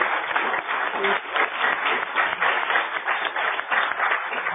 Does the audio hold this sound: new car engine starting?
no